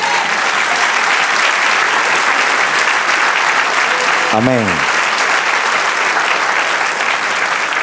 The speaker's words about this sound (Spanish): Dale un aplauso, Señor.